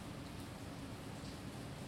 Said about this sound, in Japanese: 雨強くなったね。